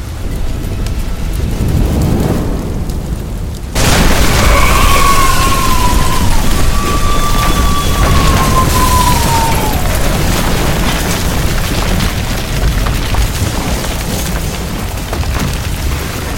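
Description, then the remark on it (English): After a few seconds of rushing noise, a loud boom of thunder crashes in suddenly, then rolls on as a long, heavy rumble that barely fades. No one speaks. “The effect of my blow was always the same. The fire. The thunder.”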